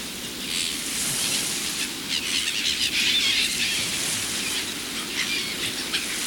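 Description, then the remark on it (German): A dense chorus of seabirds calling around an island approached by a small rowing boat, with high, overlapping cries and squeals over a steady hiss of wind or surf, fairly loud and continuous throughout, with no voices. “Je näher wir kommen, desto mehr Vögel hat sie da.”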